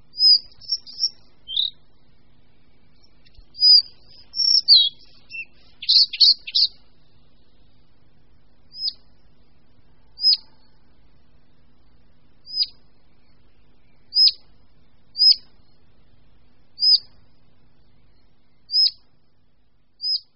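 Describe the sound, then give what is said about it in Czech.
A collared flycatcher sings from its perch a brief, high, squeaky phrase, then gives a series of short, thin single calls spaced about every second or two, clear against a quiet background. “Z této svojí pozorovatelny také přednáší svůj zpěv a můžeme zaslechnout jeho krátké vábení.”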